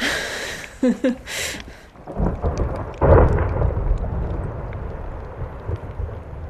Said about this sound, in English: So the ice from the glacier next to the station constantly falling off into the ocean, making these huge thunderous sounds. The little pieces of ice floating on the ocean, clinking and clunking and popping as they melt. It was really quite loud.